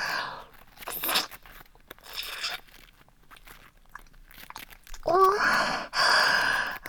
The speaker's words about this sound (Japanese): この舌先が作り出す音みたいな。